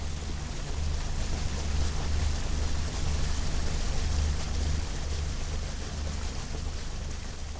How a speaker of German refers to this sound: Unterwegs auf dem Brahmaputra. Die gewaltige Kraft vom Fluss stemmt sich gegen das Boot. Man kommt nur im Schneckentempo Fluss aufwärts.